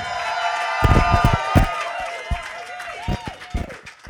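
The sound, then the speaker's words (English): A crowd applauds Skepchick, with sharp claps scattered through a dense roar of cheering and whoops, and a few rising whistles cutting over the top. Steady and fairly loud throughout. “Also, can I please have a round of applause for Skepchick?”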